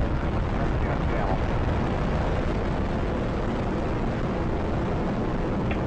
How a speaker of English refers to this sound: And liftoff of Space Shuttle Atlantis, the final visit to enhance the vision of Hubble into the deepest grandeur of our universe.